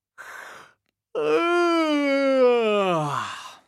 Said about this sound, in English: So, stand up in a space, shoulders relaxed and feet apart. Let's have a big yawn to start with.